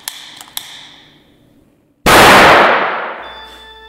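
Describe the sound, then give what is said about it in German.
A few light glassy clinks, then a moment of quiet before a single sharp, loud bang bursts out and fades over about a second: an oxyhydrogen test pop, a mixture of hydrogen and oxygen gas igniting. “Wir erinnern uns an die Knallgasprobe aus dem Chemieunterricht.”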